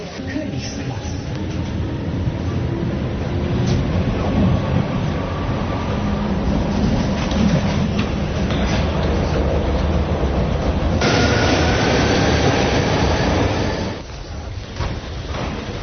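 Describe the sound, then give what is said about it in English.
A subway train running on rails, heard as a loud, steady roaring rumble that shifts in tone partway through and eases off near the end. “Well, it took me half an hour at least to get here by subway.”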